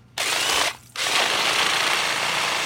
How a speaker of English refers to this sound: Leary bores a hole straight down with a long, spiraling drill bit